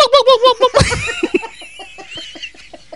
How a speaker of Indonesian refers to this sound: Eh ada kalkun lucu ya. Ini mah udah bentuknya kayak gitu. Apa ini jambulnya gede. Suka ngejar orang suaranya.